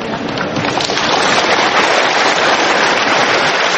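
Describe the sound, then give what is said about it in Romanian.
A studio audience applauds Russian Prime Minister Vladimir Putin during a live broadcast on the Rossiya TV channel, a dense, loud wash of many hands clapping at once that holds an even level for the full few seconds, with no voices over it. “Putin a fost primit cu aplauze în studio”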